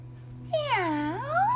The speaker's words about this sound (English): Yeah. It's just a kitty.